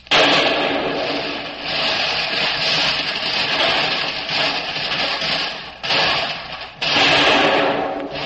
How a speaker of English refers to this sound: watched the American long tom cannons cut loose with a murderous barrage that split the advancing German armored column in half.